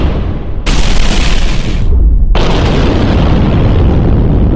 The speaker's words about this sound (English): Explosions.